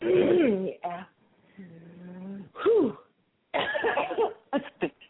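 A person who swallowed wrong coughs in several harsh, throaty bursts, with a long strained wheezing breath in the middle and a quick run of short coughs at the end.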